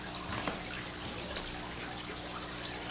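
A steady stream of water pours continuously into a jar, with a broad, hissing splash throughout and a few faint gurgles, no voices present.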